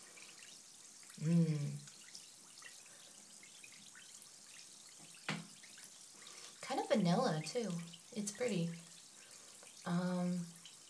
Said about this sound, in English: And it'll just make the water soft, and it fizzes all around, and it kind of scoots about the tub.